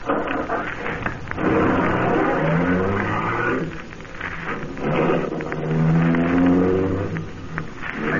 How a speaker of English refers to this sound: I looked again at the limousine. An official car of the MVD. Trying to be as casual as possible, I went over and looked in. The ignition keys were there. I got in quickly, stepped on the starter.